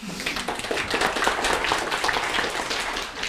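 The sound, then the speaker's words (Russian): An audience applauds steadily, many hands clapping at once in a dense, even wash of sound that holds at a moderate level for a few seconds without anyone speaking. “Ну что, аплодисменты?”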